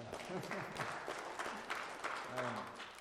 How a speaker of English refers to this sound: I think you guys need a round of applause.